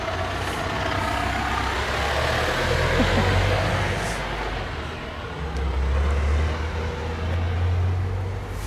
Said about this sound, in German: Da kommt mal gerade ein Lastwagen, wir gehen mal zur Seite.